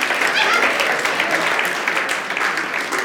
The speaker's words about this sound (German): Ja, da können wir mal klatschen, das ist doch gut.